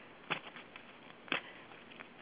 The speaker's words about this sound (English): Okay, can I deal 3 cards for you? Yes, absolutely. Good. I'm going to give them a good shuffle.